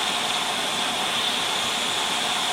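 radio static

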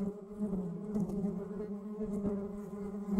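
bees buzzing

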